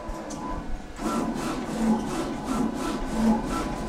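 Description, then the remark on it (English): A sticker printer head at a print shop in Berlin sweeps back and forth in a steady, rapid rhythm, bringing colour onto foil to print a Union Jack sticker, each pass a whirring rasp with a mechanical hum beneath, starting after a brief quieter moment. “So the printer head is going back and forth, yeah. And it's printing out a sticker.”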